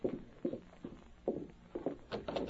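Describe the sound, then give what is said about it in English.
A horse is brought from the corral to the house, its hooves clopping along at a slow, steady walking pace, a string of evenly spaced thuds that grow slightly busier toward the end, with no voices. “there's my stepson at the corral now with Blackie. Jack! Jack, bring that horse here to the house.”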